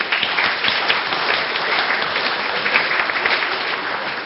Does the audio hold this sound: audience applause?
yes